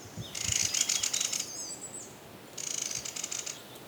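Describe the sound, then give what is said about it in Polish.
Two dry, rattling bursts of a mistle thrush alarm call, given when the bird is alarmed, in a quiet forest; each burst lasts over a second with a short pause between, clear against the quiet background. “O, jest też paszkot. Tak terkocze, jak się zaniepokoi.”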